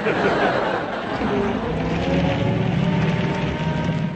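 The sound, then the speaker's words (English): An old lorry engine with engine trouble runs roughly and splutters, a steady, loud mechanical rumble with uneven low throbbing that continues without a break. “Engine trouble.”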